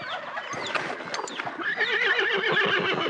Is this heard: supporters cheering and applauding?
no